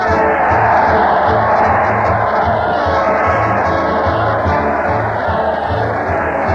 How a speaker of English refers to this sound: Listen to that crowd cheer Fred Allen as he leads his weekly parade to the old Town Hall. Fred's jogging ahead of the crowd, and the mighty L&R players are running for dear life.